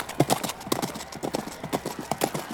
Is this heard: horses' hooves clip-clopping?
yes